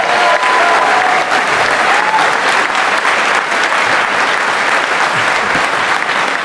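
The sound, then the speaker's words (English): Sustained audience applause at a DEF CON event for a contest's second-place winning team, a dense wash of many hands clapping at steady loudness for several seconds, with a few faint whistles near the start and no clear speech over it. “Come on, more applause than that.”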